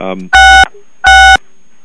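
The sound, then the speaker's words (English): Two loud, steady electronic beeps from phone keys pressed by someone leaning on their keyboard during a group call, each about a third of a second long with a short gap between them, following a brief fragment of voice. “Somebody's leaning on their keyboard.”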